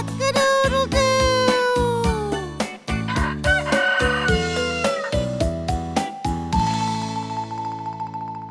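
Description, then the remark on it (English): A rooster crows in long, drawn-out calls over an upbeat musical backing with steady, punchy drum hits, the crowing repeating a couple of times before a held tone fades out. “Cock-a-doodle-doo. A rooster.”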